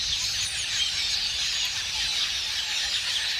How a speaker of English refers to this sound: But setting aside their taste for crops, the sight of a couple million red-billed quelea swirling in unison and creating ever-changing patterns in the air is one of nature's most amazing spectacles.